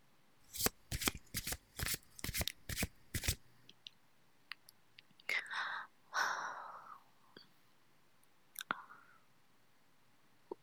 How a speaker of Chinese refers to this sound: 好，那我们赌一下吧。不过，我要洗牌。